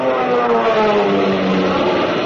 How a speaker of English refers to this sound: You can see, too, those kids of the RAF and their planes. Your planes, zooming up to fight for those ships. For your life.